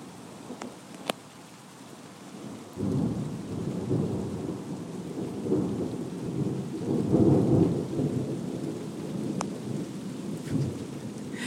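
Steady rain patters throughout while a deep, rolling thunder rumble in the distance swells in after a few seconds, vibrating the house, building and fading in long low waves. A few sharp drips tick out near the start.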